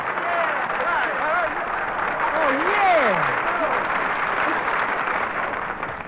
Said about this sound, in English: Well, folks, here's your little squirt of California orange juice. Applaud on me.